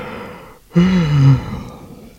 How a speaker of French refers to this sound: Il baille.